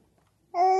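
After a moment of near silence, a tired baby boy lets out a single sustained, tuneful vocal note, loud, like a sleepy little sung coo, the song he sings when it's time to go to sleep.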